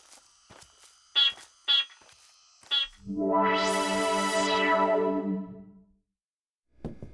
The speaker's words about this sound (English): Let me beep for you. But I'm doing it because I want to. Great. Beep.